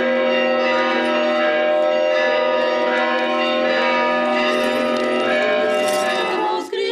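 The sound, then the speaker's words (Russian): Easter church bells peal continuously after the service during Bright Week, a loud, dense, festive ringing, many overlapping tones clanging together with a bright metallic shimmer, no voices on top. “После службы всю Светлую Седмицу проводятся крестные ходы и звучит радостный пасхальный звон.”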